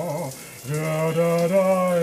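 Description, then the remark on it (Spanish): Shower water runs in a steady, hissing spray throughout, while a man's voice sings sustained, wavering notes loudly over the rushing water. “Termina de desvestirse y se mete a la ducha.”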